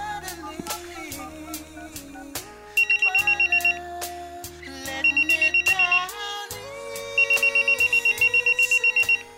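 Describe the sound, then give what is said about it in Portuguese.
A telephone rings in three short bursts of rapid, trilling pulses as an outgoing call is placed, loud, set over a steady musical backing that plays throughout with no talking. “Não, rapaz, por que você não liga pra ela, mano? Liga pra ela lá.”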